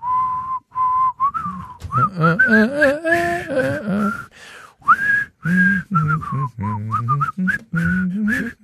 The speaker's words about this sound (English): Now, I'll tell you what we used to do when I played baseball. Our old dugout would whistle the Old Spice theme.